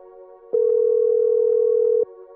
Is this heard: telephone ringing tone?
yes